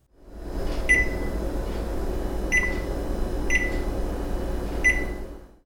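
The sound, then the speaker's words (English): Several short electronic beeps from a kitchen microwave keypad as buttons are pressed, spaced irregularly over a steady low appliance hum, with no talking. “Pressing buttons on the microwave.”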